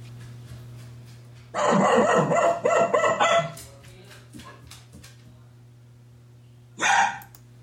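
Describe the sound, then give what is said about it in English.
A poodle barks in a rapid, high-pitched flurry of sharp yaps lasting about two seconds, then falls quiet before one more loud bark near the end, over a steady low hum. “They do bark. And here's what their bark sounds like.”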